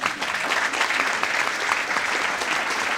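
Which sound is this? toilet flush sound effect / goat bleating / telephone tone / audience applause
audience applause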